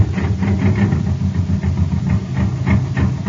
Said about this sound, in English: Hey, you want to have some fun, gang? Listen to this jet cycle.